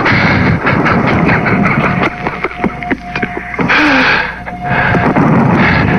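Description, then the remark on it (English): Scattered gunfire rings out downtown near Main Street over a dense, constant roar of noise: irregular sharp cracks and pops throughout, a few louder bursts standing out from the rumbling din. “Shooting down there.”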